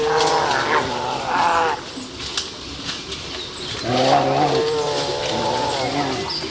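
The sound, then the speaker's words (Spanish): A pair of Asturian brown bears in the Valle de Ermo, in the Alledo area of Asturias, Spain, vocalize in two drawn-out bouts of low, moaning growls, fairly loud, separated by a brief pause filled with outdoor background noise. “Bueno, pues aquí tenemos una pareja de osos en el Valle de Ermo.”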